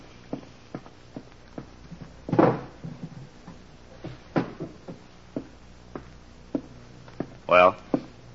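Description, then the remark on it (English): The top middle drawer of a desk is pulled open, followed by a run of light knocks, clicks and rustling as its contents are rummaged through, with a couple of louder scraping slides. “In the top middle drawer of my desk. Inspector, will you see if it's there?”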